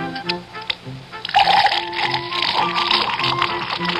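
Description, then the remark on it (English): Budweiser beer pours steadily into a glass, a bright fizzing hiss of foam that begins after a brief pause and keeps going, with soft music underneath. “Now take that wonderful Budweiser head of foam, for instance.”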